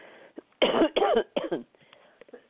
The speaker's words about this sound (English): Excuse me. I caught your cough